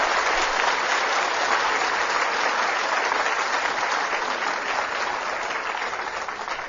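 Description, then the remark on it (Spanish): A crowd applauds Saint Thomas (Santo Tomás) steadily for several seconds, a dense wash of many hands clapping at an even, loud level that tapers slightly toward the end. No voices are heard. “Sí, dele el aplauso a Santo Tomás.”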